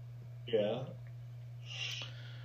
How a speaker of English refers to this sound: I stayed up till 5 in the morning, so apologize right now for the yawning.